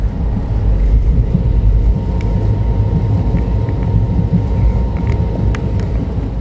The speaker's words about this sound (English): 40 more minutes before this train arrives Coimbatore in Tamil Nadu, and that's the last major leg of this journey.